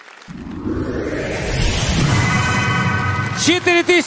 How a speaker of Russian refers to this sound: Ну что ж, еще раз аплодисменты. Потрясающе.